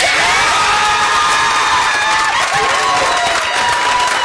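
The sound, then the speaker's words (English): A room full of family and friends at a player's home erupts in loud, sustained cheering and clapping as he is picked 19th by the Baltimore Orioles in the 2025 MLB draft, with excited shouts and whoops rising over the applause, continuous throughout. “Man, did he have a crowd at home.”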